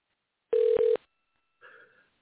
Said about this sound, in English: But y'all should hear the phone ringing in here in a second if I do this correctly. Hold on, y'all. Hopefully we're going to get our guest on.